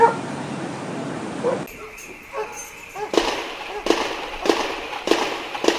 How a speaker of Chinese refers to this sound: 刚刚听到的是离前一晚枪战之中的声音。